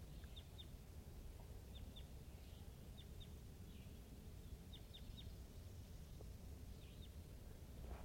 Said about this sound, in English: So recording, this is a wild crossbill to the east of the net site, up on the top of the hill, calling from the distance.